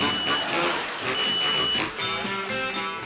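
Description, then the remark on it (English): Electronic beeping from a cooking device signalling that the chicken is ready, amid a dense, noisy background, with steady tones that become more distinct toward the end of the short clip. “Yes, it beeps when it's ready.”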